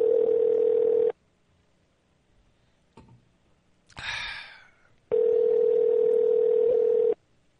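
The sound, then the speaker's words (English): A telephone ringback tone sounds twice while a person's number is dialed, each a steady, loud hum lasting about a second or two, separated by a pause holding a faint click and a short burst of noise. “All right, try to dial him and see if it works.”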